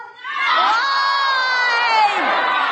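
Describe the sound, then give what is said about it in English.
A large rally crowd shouts loudly in unison in response to being asked what Trump did, many overlapping voices rising together into a sustained, chant-like yell that holds for a couple of seconds with no single speaker standing out. “And let me ask the crowd, what did Trump do?”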